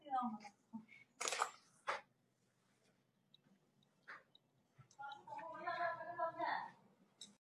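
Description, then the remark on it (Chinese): A camera shutter clicks a couple of times as a photo is taken, sharp mechanical snaps early on, followed by some faint handling noise and then a person speaking. “拍个照片。”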